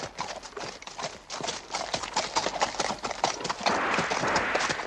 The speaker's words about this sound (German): Und wohin jetzt? Auf die Pferde. Und dann? Im langsamen Trab um die Ecke des Hauses und dann im Schritt durch das Dorf.